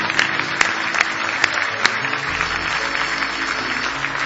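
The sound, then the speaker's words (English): A crowd claps steadily as a hand clap of praise to Jesus, a dense wash of many hands applauding together, with a few sharper, louder claps standing out early on. “Now give Jesus another big hand clap of praise.”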